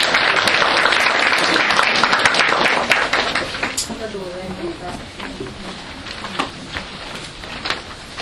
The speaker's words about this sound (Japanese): ご承認いただける方は拍手をお願いします。